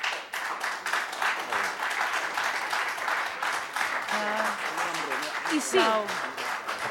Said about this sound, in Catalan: És que en principi no hauríem d'aplaudir en el plenari. Els hi demanaria, sisplau...